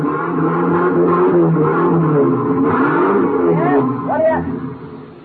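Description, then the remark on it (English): At the Haynes U Drive truck rental garage, a vehicle engine revs loudly and steadily for several seconds, with rising and falling whines near the end, and muffled voices faintly underneath. “Thinking back to the truck that had almost run Turkey down, I went to the Haynes U Drive truck rental garage.”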